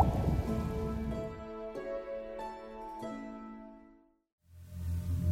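Several water drops plink one after another with bright, ringing tones that linger and echo, fading into a brief silence before a low rumbling wash takes over.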